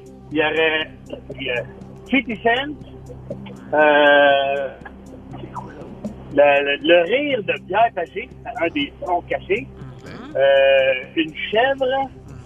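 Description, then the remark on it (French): Several loud, wavering bleats from a goat come in bursts, some long and quavering, with shorter calls between them and a low hum underneath. “un des sons cachés, une chèvre”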